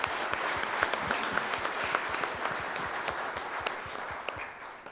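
A conference crowd applauds steadily for the ministries team, the elders and the leadership, many hands clapping at once in a dense, even patter that holds at a moderate level for several seconds, with no one speaking over it.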